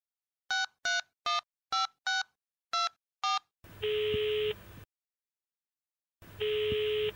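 A phone number is dialed: eight short, evenly spaced touch-tone beeps, then two long buzzy ringback tones separated by a pause. No one speaks.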